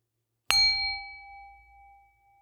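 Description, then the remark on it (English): A single meditation bell is struck once, ringing clear and bright with a sustained tone that slowly fades away in the quiet, with no voices present. “I'm going to ring a bell in just a few moments. Then stay with the sound from that bell until you cannot hear it anymore.”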